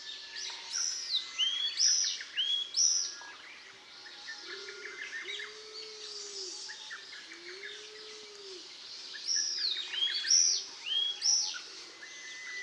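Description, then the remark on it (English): Izu tit (Austin's tit, Sitiparis austinii) calls: busy, high chirps and short whistled notes repeating throughout, with a few soft, low cooing notes from another bird in the background. No talking. “The other common name for this bird, which I like better, is Izu tit.”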